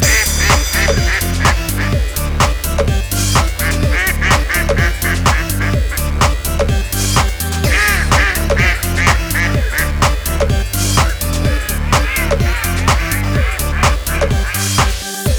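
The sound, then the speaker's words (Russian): Loud duck quacks come in a fast, steady rhythm for the whole stretch, insistent, almost like a beat, with no voices speaking. “рад вам представить мастера импровизации Стивен Утка”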